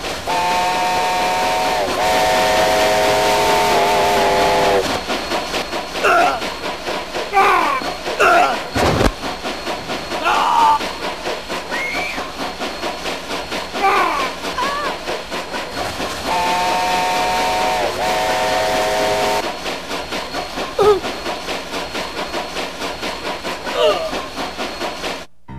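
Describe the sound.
A steam train chugs steadily while its whistle blows in two long, loud blasts, one at the start and another partway through, with faint voices and clatter mixed into the rumble.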